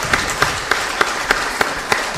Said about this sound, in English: Round of applause for our leader and our children, please.